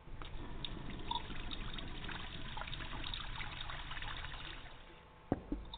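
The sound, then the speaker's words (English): A thin, steady trickle of water running from a tap in a house at weak water pressure, continuous for several seconds, ending with a couple of small knocks. “Flash house, but the water pressure sucks.”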